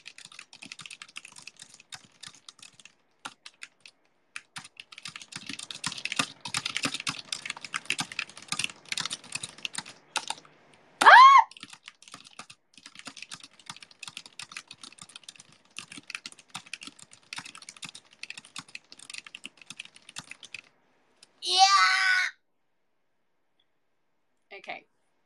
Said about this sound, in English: Lot of mistakes. I think my raw typing speed is 131 words per minute, but with the accuracy it goes down to 116.